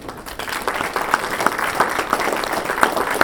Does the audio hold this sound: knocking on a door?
no